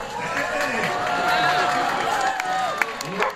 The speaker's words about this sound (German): Also ich höre ja ein paar Leute klatschen